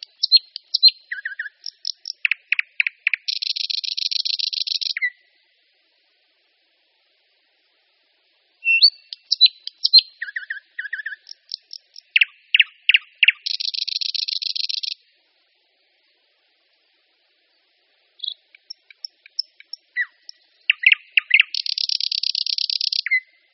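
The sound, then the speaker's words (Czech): Thrush nightingale song in three loud phrases separated by pauses, each opening with sharp clicks and chuckling notes and ending in a long, harsh buzzing rattle. “Jde o slavíka tmavého, starší generaci známého pod jménem Slavík uherský.”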